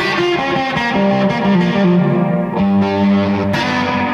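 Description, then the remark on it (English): A loud, sustained instrument run through a Red Panda Context reverb pedal set to extreme reverb, its chords smearing into a dense, distorted wash that swells and shifts without pause, with no one talking. “It's a Red Panda Context reverb, a little more extreme.”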